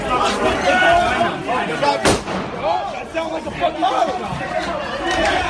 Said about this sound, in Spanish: Ese era el momento en el que podíamos escuchar ese disparo en el interior del Capitolio.